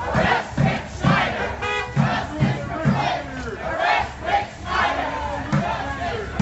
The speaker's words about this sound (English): Outside Snyder's home last night, protesters demanded the governor's arrest and resignation.